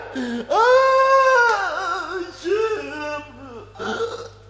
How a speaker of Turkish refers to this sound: Kalk gayrı, kes ağlamayı da gül hele. Kalk, kalk dedim.